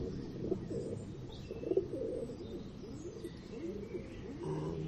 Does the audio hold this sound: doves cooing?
yes